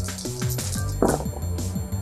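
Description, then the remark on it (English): Six dice rattle and clatter across a hard surface, a quick jumble of sharp clicks and clacks with a louder knock midway before they settle. “6 dice.”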